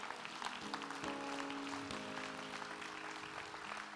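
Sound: audience clapping hands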